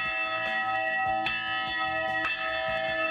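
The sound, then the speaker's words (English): A church bell tolls with a rich, ringing sustain, struck about once a second, each new strike blooming over the lingering hum of the last. No voices. “Ladies and gentlemen, the bell tolls.”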